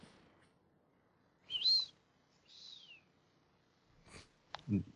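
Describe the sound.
A person imitates a bird call, whistling two short calls, the first chirpy and bright, the second a longer descending note, followed by a quick breathy snort, all fairly soft.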